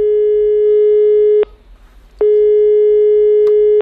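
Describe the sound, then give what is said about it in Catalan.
A steady telephone tone at the start of a call to the Hamlet hair salon sounds loudly, cutting off briefly around the middle with faint noise in the gap, then resuming with the same flat pitch. No one speaks. “Ja veuràs, l'inici del Hamlet, l'inici d'aquesta trucada.”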